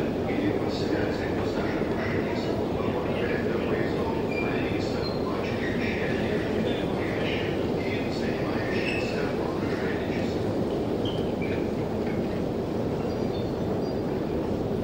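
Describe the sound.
A subway train rumbles steadily and loudly throughout, with metallic rattling and occasional high squeals over the continuous roar, and indistinct voices murmuring underneath.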